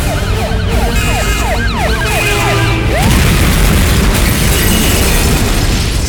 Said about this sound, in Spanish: Terrible camión que parte el auto al medio. Ningún baúl puede resistirse a la trompa de un camión.